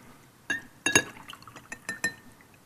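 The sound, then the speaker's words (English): A drinking glass clinks several times as it is picked up and set down, bright taps at irregular intervals with faint handling noise between them, no voices. “I didn't want this glass. I wanted this glass.”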